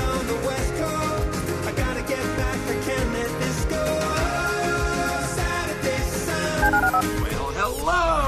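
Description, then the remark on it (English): Telephone keypad dialing tones in a jingle for the HR&P listener line on ESPN 97.5 radio, bright electronic beeps woven into a loud, dense musical bed that plays steadily throughout, ending with a sweeping swoosh. “Dial the phone.”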